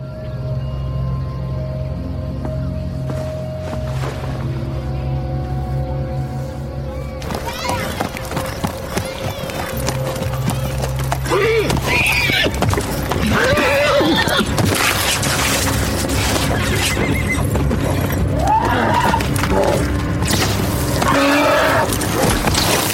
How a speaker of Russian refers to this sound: Приведите его коня.